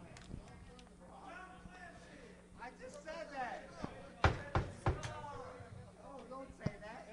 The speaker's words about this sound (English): Okay, the next false knock will lose points.